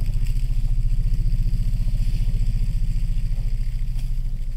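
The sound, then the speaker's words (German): An elephant's "let's go" rumble: a deep, throbbing low growl with a buzzing, engine-like texture, holding steady and loud for several seconds with no other sounds over it. “Das ist ein Los geht's, Ruf.”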